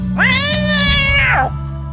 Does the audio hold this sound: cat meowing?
yes